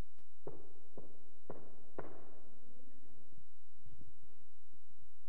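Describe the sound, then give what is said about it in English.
Four sharp, evenly spaced knocks rap on a resonant surface, the last one louder with a longer ringing decay, followed by a few faint, low thumps and rustles. “And the guy comes up and, you know, I don't know how they knock fancy.”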